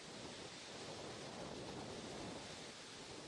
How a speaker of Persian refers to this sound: برش آبشار سولدوکل، بزرگترین آبشار آذربایجان، در این دیار نعمت آب را با سبزینگی همساز می سازد.